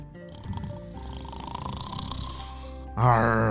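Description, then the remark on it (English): A voice imitates a pirate snoring after he crashed into a lake: one long, raspy, rumbling snore held steadily for about three seconds, ending in a louder voiced, growling snort. “But this pirate had somehow crashed into this water and was now snoring,”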